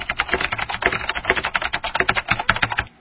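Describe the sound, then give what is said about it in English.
Rapid, steady computer keyboard typing sound, played as a keyboard sound scheme option on a device, a dense stream of crisp key clicks with no voices, continuing evenly for the full few seconds. “We get the sound of a computer keyboard being typed on.”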